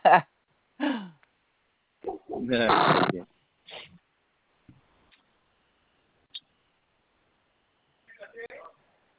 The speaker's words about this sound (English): Bless you.